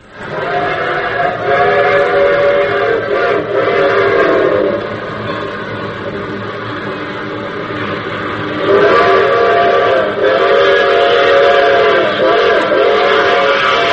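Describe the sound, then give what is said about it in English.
A steam train thunders along loudly and steadily, its chugging roar joined by long, wailing whistle blasts at the start and again near the end. “I start this thing off with the train.”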